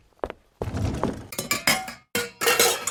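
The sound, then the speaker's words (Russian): Metal pots and pans clatter and clank as someone rummages through a kitchen cupboard of dishes looking for a frying pan, past a saucepan and a colander, a series of loud bangs and rattles in irregular bursts with no talking. “Это кастрюля. Это, не знаю что. Это дуршлаг. Ага, вот и сковорода.”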